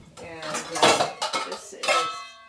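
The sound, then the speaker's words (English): Dishes clatter as a bowl is pulled out to be filled with cold water: several bright, clinking knocks of ceramic, each with a lingering ring, spread unevenly over a couple of seconds with no talking. “I'm going to get a bowl.”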